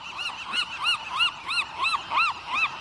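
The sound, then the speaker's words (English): A western gull gives a rapid series of about eight loud, nasal, arching calls at a steady rhythm, each rising and falling in pitch, with no voices. “But one Western gull's devotion to trash reached a new level with an epic road trip.”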